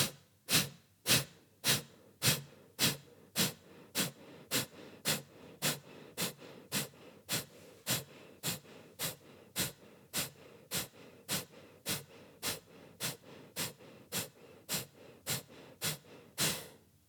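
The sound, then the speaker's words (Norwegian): Forceful deep breathing in and out during the last round of a guided breathing exercise repeats at a quick, steady rhythm, with nearly thirty sharp, hissing breaths over the stretch and no talking between them. “Vi puster dypt inn.”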